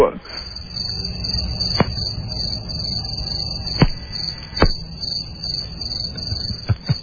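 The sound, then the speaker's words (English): A cricket sound effect played on the Don and Mike Show radio program: crickets chirp in a steady, unbroken high trill throughout, clear, with a few sharp clicks popping up now and then against the drone. “The crickets didn't scare that guy away.”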